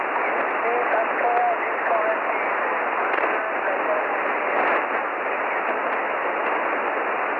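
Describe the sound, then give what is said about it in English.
A faint, distant voice of an amateur radio station drifts through dense, hissing shortwave static, band-limited and steady, with the transmission barely rising above the constant noise floor throughout; its signal is reported at about 4x6 to 4x7. “Okay, good to hear you, …. You're about a 4x6, a 4x6, 4x7 tonight”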